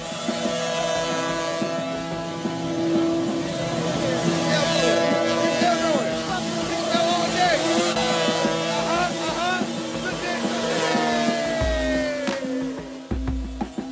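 A motorcycle engine revs as hard as possible, its loud, rasping tone surging up and down in pitch for the whole stretch, with a brief deep rumble near the end.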